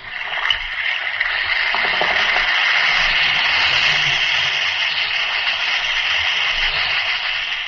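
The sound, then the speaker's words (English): An Alka-Seltzer tablet fizzes in water, a steady, dense hiss of bubbling that stays loud and even throughout, with faint crackles and no voices. “Listen to it fizz.”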